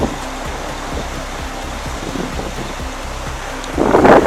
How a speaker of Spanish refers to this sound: Y no solo el viento, no, también la lluvia y la nieve están haciendo acto de presencia en La Rioja. El viento silba a esta hora en Valdezcaray y la nieve golpea así el suelo.